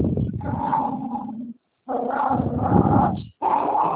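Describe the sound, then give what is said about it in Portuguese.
A dog growls and barks in long, rough bursts over a muffled, telephone-like line, with one short silent break midway and another near the end. “Cachorro, fala com o cachorro.”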